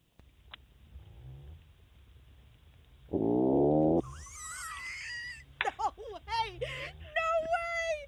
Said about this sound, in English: That was the fish. That was the fish. Oh my gosh! That sounds like a horrible. That's it. Yeah. Sounds like a terrible tummy ache. Yeah. Oh no, that's a Lusitanian toadfish. No, it's calling.